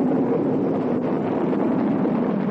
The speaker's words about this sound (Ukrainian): Ми чуємо звук, як корабель з першим космонавтом на борту стартує з космодрому Байконур.